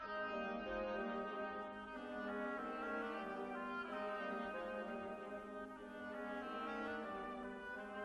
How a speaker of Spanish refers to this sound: El pato es un oboe.